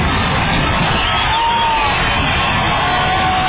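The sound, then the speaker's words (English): A stadium crowd at a Vikings football game, in the third quarter with the Vikings leading 15-0, roars loudly and steadily for several seconds, a dense wall of cheering with a few shrill whoops and whistles rising above it. “And here goes that round crowd again.”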